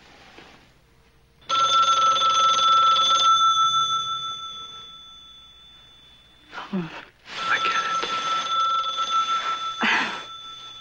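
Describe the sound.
A loud telephone bell rings in a long, steady metallic trill, pausing briefly as a voice speaks a few words, then resuming insistent for several more seconds.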